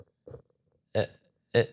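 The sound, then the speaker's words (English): A voice imitates the squealing brakes of a car being pressed, with three short, croaky bursts: a soft low one, then two louder, harsher squawks with a buzzy, harmonic edge, each separated by brief silence. “This is the perfect impression of what it sounds like when I press on the brake of my car.”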